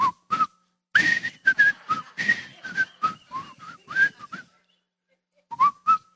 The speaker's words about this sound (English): We will not add whistling to one of my... It's a good thing we don't have a whistle team for the worship team. That's what some of you are picturing right now, right? That old Andy Griffith show.